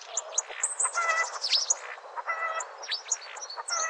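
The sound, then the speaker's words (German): A starling sings a dense, continuous medley of chirps, whistles, rattles and swooping notes, rapidly mimicking other birds' calls, fairly loud with no voices; a rare recording made by ornithologist Professor Hans-Heiner Bergmann. “Stare können zum Beispiel die Rufe von Bussarden oder Spechten nachahmen oder auch mal ein Huhn.”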